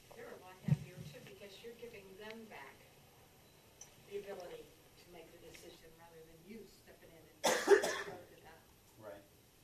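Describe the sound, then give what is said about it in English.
A short bout of coughing, with one harsh, loud cough burst near the end after quieter throaty sounds, with a voice murmuring in between. “Boy, that cough, that tickle just won't go away again.”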